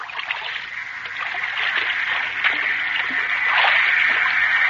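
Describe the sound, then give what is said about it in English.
Harbor water sloshing and lapping steadily against the hull of a schooner at anchor in Manila Harbor at night, a continuous wash of gentle splashes and trickles with small surges, moderately loud, with no voices. “The schooner Spindrift is at anchor in Manila Harbor. It is night, and the lights of Manila dance across the dark waves.”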